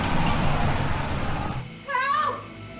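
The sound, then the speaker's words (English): A car rumbles in and slows to a stop, its engine noise dropping away, followed by a brief high squeal like brakes settling. “pulls up in his car.”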